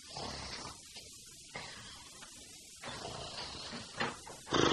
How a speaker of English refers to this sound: Here's Mum coming along the passage now. Start snoring.